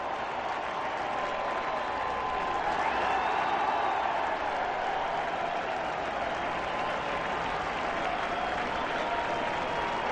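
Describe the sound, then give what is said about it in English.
A large baseball stadium crowd applauds and cheers as Frank Robinson, number 20, in uniform, touches home plate and waves to them: a steady, dense roar of clapping that holds at an even loudness for the whole stretch, with no break or pause. “Standing with both feet on home plate and waving with his right hand to the crowd is Frank Robinson.”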